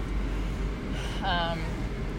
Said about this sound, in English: Oh my gosh, stop burping. You're so gross.